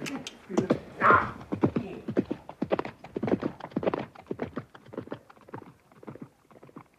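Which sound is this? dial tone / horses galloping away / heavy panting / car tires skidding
horses galloping away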